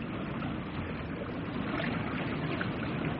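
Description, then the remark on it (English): Water sloshes and laps steadily against a small moored open dinghy with an outboard motor, a continuous wash of rippling noise with no voices and no distinct separate splashes. “Here's the boat. I see. Just an open dinghy with an outboard motor.”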